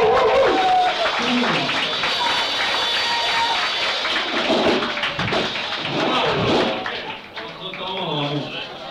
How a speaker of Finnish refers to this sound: Alright, aplodit